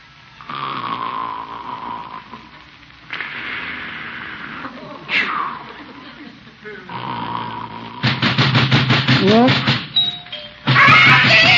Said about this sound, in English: Why is he ringing the doorbell? I'm not even Miss Gildersleeve.